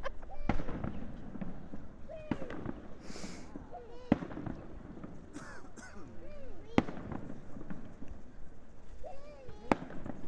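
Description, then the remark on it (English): Distant fireworks from a fair pop and crack at irregular intervals, sharp bangs standing out over a busy background of murmuring voices and faint bird calls. “Oh, is that fireworks going?”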